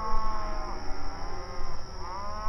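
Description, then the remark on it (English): Several cattle, which the Desperado is trying to steal, moo and low in overlapping, drawn-out calls, a fairly loud herd sound with a steady background hiss and no talking. “The Desperado is trying to steal those cattle, just like those dumb girls in town said.”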